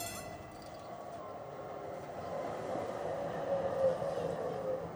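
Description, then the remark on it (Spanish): A tram rumbles steadily from inside the car as it stops at Güterbahnhof station, its drone building slightly as brief metallic squeals rise near the end, like wheels braking on the rails. “Mira hacia la puerta del tranvía, se pone nerviosa.”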